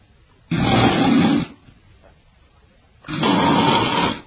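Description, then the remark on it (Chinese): A voice imitates the loud snoring of the character Ouyang Chun, asleep leaning against a chair: two long, rough, rasping snores about a second each, separated by a quiet pause, deep and throaty with a harsh rattling texture. “这伙计接茬还往下说，正这时候他突然听见打喧的声音，欧阳春靠着椅子睡着了。”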